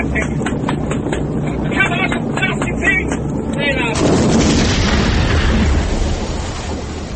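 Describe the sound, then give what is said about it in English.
The steady, heavy drone of a Mosquito aircraft carrying target indicators on a raid on Krefeld gives way to a sudden loud blast as the aircraft explodes, followed by a dense, rumbling roar that continues to the end. “Of the four target indicators which fell from Alan Hill's aircraft when it exploded, two fell harmlessly, failing to detonate.”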